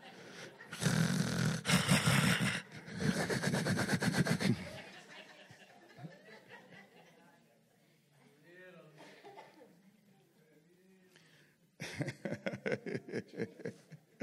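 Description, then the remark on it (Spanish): Voices mimic loud, raspy snoring in rapid repeated bursts, as if napping during a church service, followed by quieter chuckling and murmured talk, then another loud stretch of fake snores near the end. “Pues vamos al culto ahí, vamos a cerrar los ojitos, una siesta. Bien rolados, roncando y con diferentes ruidos.”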